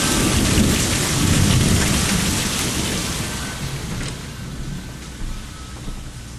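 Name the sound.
thunder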